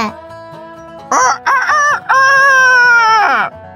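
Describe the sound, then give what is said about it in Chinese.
A rooster crows loudly, starting with a couple of short rising notes and finishing in one long, drawn-out cock-a-doodle-doo that falls away at the end. “哇，公鸡在叫耶！”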